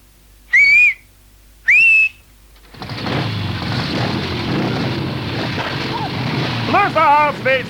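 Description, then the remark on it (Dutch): A traffic whistle is blown twice on a busy square with heavy traffic, two short shrill blasts in quick succession signalling the traffic to drive, followed by a wash of noisy crowd and traffic bustle with voices talking. “Ja, omdat ik twee keer op mijn fluit gebaas.”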